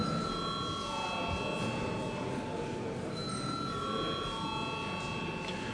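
parliament chamber bell ringing

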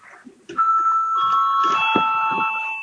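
parliament chamber bell ringing

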